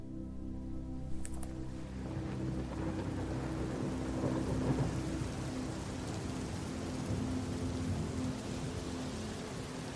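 A thunderstorm: steady, dense rain hisses throughout while deep thunder rumbles underneath, swelling slightly midway. The sound is continuous, with no voices.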